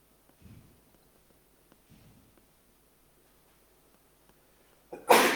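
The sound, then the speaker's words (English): A single loud, sharp sneeze bursts out near the end after a few seconds of quiet breathing and faint shuffling. “Bless you.”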